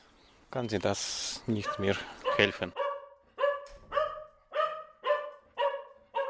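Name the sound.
dog barking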